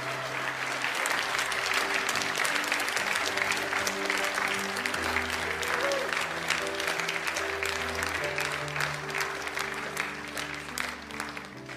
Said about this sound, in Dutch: Dus mijn voorstel is om een groot applaus te geven voor de Allerhoogste Heer, wat Hij gedaan heeft.